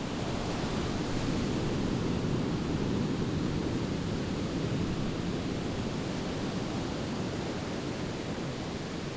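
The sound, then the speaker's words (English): A steady, unbroken roar of Pacific Ocean surf washing on Ocean Beach in San Francisco, dense and hissing, with no distinct individual waves standing out and no voices. “Ocean Beach stretches 3.5 miles down SF's Pacific coast.”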